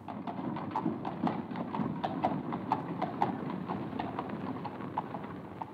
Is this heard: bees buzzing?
no